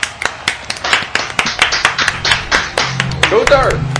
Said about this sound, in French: Un immense merci, on s'applaudit tout le monde.